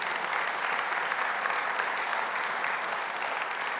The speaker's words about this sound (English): Would you give God a clap offering for that today?